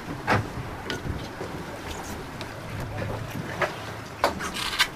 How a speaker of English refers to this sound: On a small boat about a mile off Bonaire's coast, … and the diving students prepare their underwater expedition.